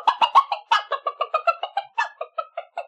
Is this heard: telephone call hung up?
no